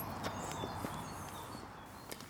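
Footsteps of a man walking with his guide dog: a few soft, irregular taps over a steady wash of background noise, with no talking.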